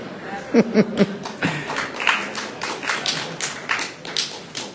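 Hands clap a dozen or so times in a loose, uneven rhythm, each clap a sharp, crisp smack, with a brief tonal murmur near the start.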